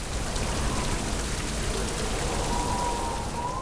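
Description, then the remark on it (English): Heavy rain pours steadily in a storm with a broad, rushing wash of wind-driven noise, loud throughout, with no voices present. “Out of the house and into the storm. Into the rain and wind.”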